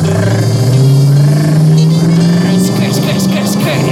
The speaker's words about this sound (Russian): Заведу красную рум, кнопку стоп, оставь чем двум. Машина делает рум, бок на стоке, рум-дум-дум.